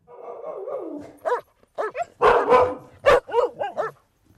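Three dogs, a huge Great Dane, a half-wolf and a small lap dog of about half a kilo, whine and bark: a drawn-out whimper opens, then a rapid run of sharp yips and a few louder, harsher barks in quick, uneven bursts, with no voices.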